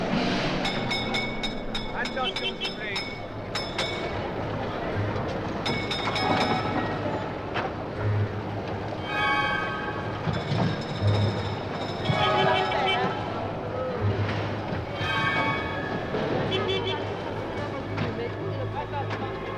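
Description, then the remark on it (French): A train rumbles along the rails, with steady rolling noise, rhythmic clicking wheel beats and occasional high metallic squeals, continuous and fairly loud throughout. “Bonjour, aujourd'hui, pour la rentrée, une émission sur les trains.”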